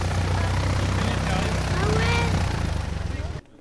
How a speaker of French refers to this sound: On a pu aussi prendre de la hauteur avec une balade en avion depuis l'aérodrome de Berck.